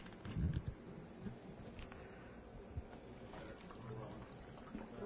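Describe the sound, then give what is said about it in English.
Water is poured into a container in a soft, steady trickle lasting several seconds, quiet, with a brief low bump near the start. “kind of need more water in this thing. I'm running out.”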